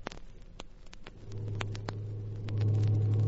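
truck engine rumbling

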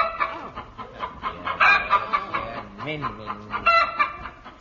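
chicken clucking

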